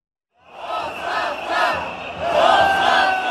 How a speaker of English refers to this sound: Night after night, crowds have been gathering in the Bulgarian capital, Sofia, chanting one word. Resignation, resignation.